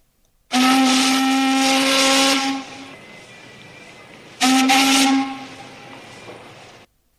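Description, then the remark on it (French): A warship's steam whistle blares twice with full force as the ship passes by on the water, loud, each long blast a steady harmonic tone wrapped in hissing steam, with a short pause between them and no voices. “Et les caïmans, immergés dans l'eau, avec seulement les yeux et le nez dehors, virent passer le bateau de guerre qui sifflait de toutes ses forces.”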